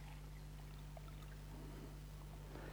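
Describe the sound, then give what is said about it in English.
Liquid is poured back quietly from one container into another, a soft, faint trickling and splashing that swells toward the end over a steady low hum, with no one talking. “I'll just pour a bit of that back.”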